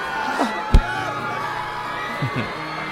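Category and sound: crowd, crowd screaming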